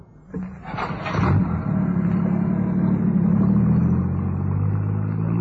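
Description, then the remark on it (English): A car engine catches with a brief clatter, then settles into a loud, steady low rumble that holds for several seconds as the car accelerates and pulls away. “Angus accelerated and turned the car towards the coast.”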